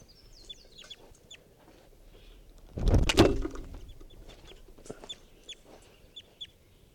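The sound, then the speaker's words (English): A wild bird clucks and lets out short, high chirps throughout while someone tries to herd it into a net, broken midway by a louder, rough burst of noise before the calls continue faintly. No one speaks. “I'm right next to that wild bird.”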